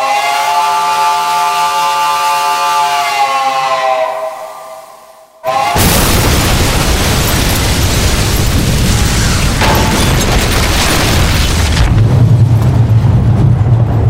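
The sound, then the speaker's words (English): A high whistling tone slides downward for a few seconds, then a sudden, very loud explosion bursts in and roars on with a long, dense rumble that gradually settles into low noise. “Trader and Ryan saw the explosion from 5 miles away, the ball of flame streaking straight up”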